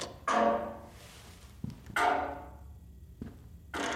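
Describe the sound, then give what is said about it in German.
A few solid knocks on a cave wall, checking for hollow spaces, irregularly spaced. The heavier ones ring out with a long, resonant decay, and quicker, duller taps fall between them. No voices. “Klopf mal ab, ob du Hohlräume findest.”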